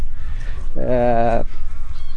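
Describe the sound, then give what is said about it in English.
A single loud, nasal honk from greylag geese disturbed while grazing on a farmland field at Inch, a wetland site in Ireland, lasting about half a second, set against a steady low outdoor rumble. “You could have 2,000 greylag geese here during the winter time.”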